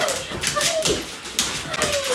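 Ranger, a 3-year-old Bernese Mountain Dog, whimpers and whines eagerly in short, high, rising bursts as he greets a family member, over a steady bed of rustling and shuffling noise.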